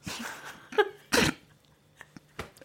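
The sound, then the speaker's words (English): A loud, harsh belch bursts out after a shorter gulping lead-in, followed by a few faint clicks and small noises in otherwise quiet surroundings. No one speaks. “Excuse me, I'm just going to belch.”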